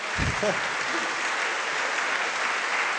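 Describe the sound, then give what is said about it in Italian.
A crowd applauds steadily to welcome guests invited to the front, the dense clapping filling the whole stretch at an even, moderate level, with a brief low thump and a faint voice near the start. “Se vi avvicinate qua e poi spiegherò il motivo della vostra presenza e voi magari li incoraggiate salutandoli con un applauso.”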